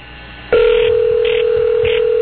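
A telephone line suddenly comes alive with a loud, steady dial tone that holds throughout, while brief higher electronic bursts recur at regular intervals over it. No one speaks.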